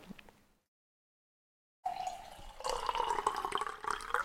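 After a brief silence, water pours steadily from a Brita water filter jug into a glass, its gurgling tone rising in pitch as the glass fills; fairly loud, with no talking.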